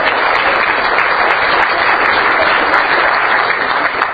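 A steady burst of loud applause from a crowd of people for the front table, with dense overlapping clapping that holds evenly for several seconds without any talking.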